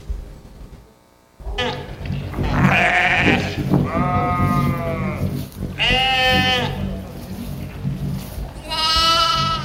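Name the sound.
sheep bleating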